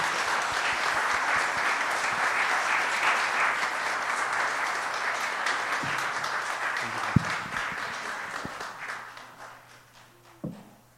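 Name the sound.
audience applause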